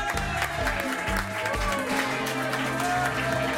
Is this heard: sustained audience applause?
yes